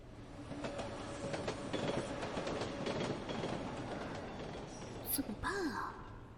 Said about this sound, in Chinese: 平时也没觉得地铁这么晃荡啊，今天这是怎么了？